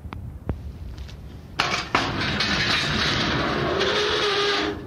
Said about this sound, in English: That is the garage door, and the car has been in the garage more often now since you have gone.